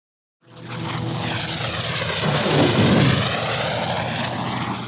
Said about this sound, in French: Nous, on voyage en avion.